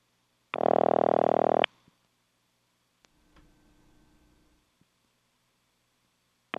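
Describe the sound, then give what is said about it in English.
A loud, buzzy telephone ringback tone, heard after dialing 0 through an Automatic Electric step switch, sounds for about a second, then gives way to faint mechanical clicks and a low line hum before the next ring starts at the very end. “I'm going to dial 0 this time. Wow, cool. That is a ring.”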